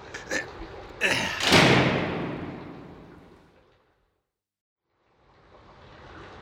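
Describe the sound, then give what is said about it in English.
A heavy door slams shut with one loud, booming impact after some brief rattling, its echo fading out over a couple of seconds into silence before faint background noise returns. “We can't get out of that door.”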